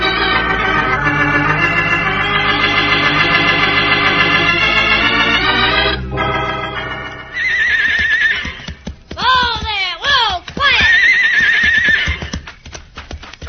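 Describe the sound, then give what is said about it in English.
Horses harnessed to a loaded wagon whinny loudly and repeatedly, their shrill, wavering neighs overlapping, while hooves clip-clop steadily underneath. “Yeah, the horses are harnessed, the wagon's loaded.”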